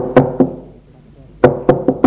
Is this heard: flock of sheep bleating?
no